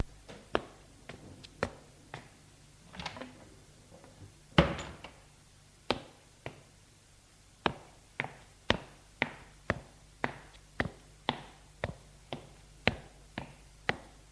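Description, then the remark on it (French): A man climbs outdoor stairs with a steady run of sharp, hard footsteps, starting uneven and settling into a quick, regular rhythm, with one heavier thud early on as he opens the door to the passageway. No talking. “Il monte les escaliers extérieurs, ouvre la porte de l'allée.”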